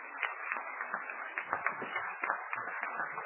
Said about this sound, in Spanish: Yo quiero pedir un fuerte aplauso para la gente que ha participado aquí. Para ustedes que están haciendo una platea espectacular.